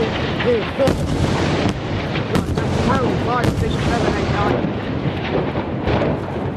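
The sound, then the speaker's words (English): Israeli airstrike explosions in Gaza City, from a live BBC Radio news report: a loud, continuous roar broken by several sharp, heavy blasts in quick succession, with shouting voices rising and falling underneath. “That was one of the many airstrikes launched by Israel in Gaza City over the past few weeks in response to Palestinian rocket attacks on Israeli cities.”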